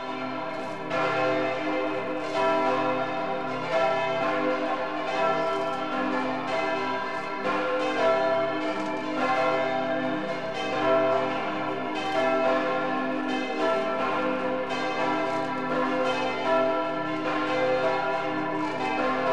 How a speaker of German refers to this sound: Die Glocken von St. Nikolaus in Hall klingen weit über die große, prächtige Altstadt hinaus, die zu den schönsten Österreichs gehört.